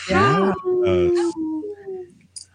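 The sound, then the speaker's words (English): Several people howl together in imitation of wolves on the radio show Native Roots Radio Presents I'm Awake, for a segment supported by Howling for Wolves, their voices swooping up and then holding long, wavering tones. The howls are loud, then fade out raggedly. “This portion of the show is supported by Howling for Wolves, protecting wolves for future generations.”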